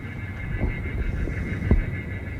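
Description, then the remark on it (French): Recorded bird distress calls, played to scare away the many birds on the airfield, sound in short, harsh bursts, a few sharp cries over a low rumbling background, with no one speaking. “Ah, ce sont des cris d'oiseaux pour effrayer les oiseaux qui sont nombreux sur le terrain et qui sont les pires ennemis des avions.”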